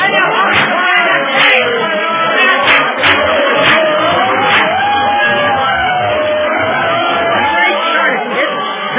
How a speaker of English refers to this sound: Tough to get through this crowd watching the fight. We had a hard enough time getting up on the dock. Now it's going to be even worse getting out to where the excitement is.